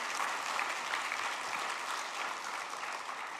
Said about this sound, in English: And for your sacrificial and generous contribution to the building and renovation fund. Shall we just give them a big clap?